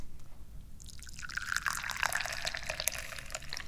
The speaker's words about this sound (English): Instead, why don't we pour some tea?